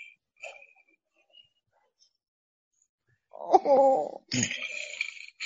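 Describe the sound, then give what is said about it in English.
After a few seconds of near quiet, a dog whose voice box was altered to make it sound like a lion lets out a loud, deep, lion-like roar in two close, drawn-out bursts, moaning and rough. “That does not sound like a dog. That sounds like a lion.”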